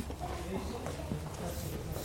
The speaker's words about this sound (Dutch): En het wordt ook inderdaad steeds stiller. Echt heel erg. Zo stil dat ik allemaal geluiden uit hoor van, ja, vanuit de huizen. Stemmen om de hoek. Voetstappen.